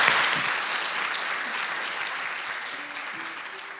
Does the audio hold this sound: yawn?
no